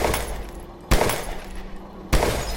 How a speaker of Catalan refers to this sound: I sense pensar-s'ho dues vegades, li van disparar tres trets. Un li va travessar el front.